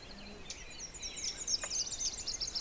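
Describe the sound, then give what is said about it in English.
Many Nashville warblers singing in a bog, a quick run of high, thin chipping notes repeated in a rapid trill, fairly faint against a quiet outdoor background with no talking. “They're singing chippa chippa chippa chitty chitty chitty.”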